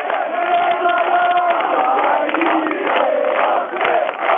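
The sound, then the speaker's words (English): Thousands of Tetovo residents rallying in front of Macedonia's parliament building jeer and shout together after President Boris Tsaikovsky addresses them, blaming the government: a dense, continuous roar of raised voices with scattered individual yells rising above it, loud and sustained throughout. “But the frustrated demonstrators jeered and blamed the government for not protecting Macedonians living there.”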